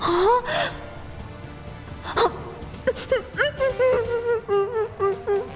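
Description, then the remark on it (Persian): A person sobs and wails close up, breath catching in gasping hiccups, with a long rising cry early on followed by a string of short, broken sobbing bursts. “آره گریه کن، تو کاملا حق داری که اشک بریزی.”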